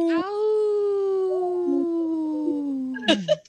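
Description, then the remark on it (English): A person imitates a wolf howl with one long, steady, slowly falling tone lasting about three seconds, then trails off into a short burst of voice and breath. “that was a weak howl.”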